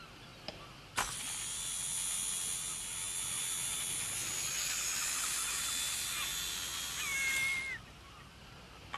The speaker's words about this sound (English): The helium balloon now rises, lifting a plastic hose into the air. When the balloon reaches the correct height, the reel is locked off.